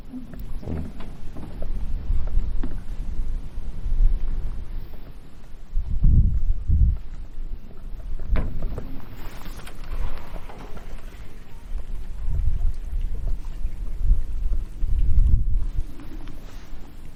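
Water splashes and babbles steadily over a constant wash of noise, with several fuller, heavier splashes rising at irregular moments. No voices are heard.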